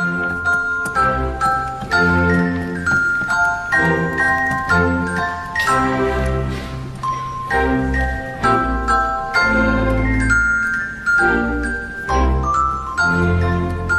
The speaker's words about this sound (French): Écoutons cet air merveilleusement enjoué et accompagné par le Glockenspiel, c'est-à-dire le jeu de cloche.